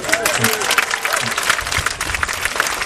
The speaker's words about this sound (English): she's got first prize. But I know, worth a round of applause in itself.